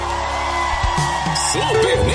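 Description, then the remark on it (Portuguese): An audience shouts and whoops loudly in a sustained burst after a live song, with rising and falling individual yells standing out over a dense wall of cheering voices. “Quem gostou, dá um gritão aí.”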